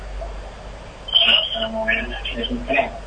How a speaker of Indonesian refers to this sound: Ya, dikecilkan terlebih dahulu Pak, volume televisinya Pak di belakang supaya tidak ada delay. Dikecilkan terlebih dahulu Pak, volume televisinya Pak di belakang.